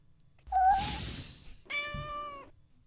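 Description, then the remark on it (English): A cat meows twice, first a shrill, breathy cry and then a clearer, tonal meow, with no talking around them. “You hear that, kitty cat?”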